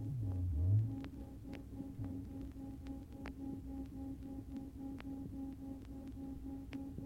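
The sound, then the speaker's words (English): Two close pure tones hum together at a moderate level, steady and alone, their combined sound throbbing in a regular beat about four times per second, with faint ticks in the background. “If the two pure tones are twice as far apart, say of frequencies of 256 and 260, you will hear 4 beats per second.”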